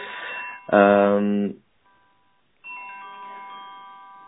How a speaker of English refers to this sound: You need to take the phone